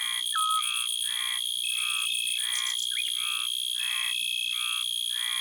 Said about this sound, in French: nous allons nous approcher de la courtilière qu'on entend par ici. Elle chante au sol, à l'entrée de son terrier, une galerie où la femelle pond ses œufs et qui sert aussi de caisse de résonance pour le chant, cette longue stridulation.